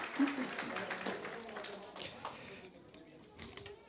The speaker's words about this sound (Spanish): Un aplauso, por favor, para nuestra hermana. Gracias, hermana. Gracias, hermana.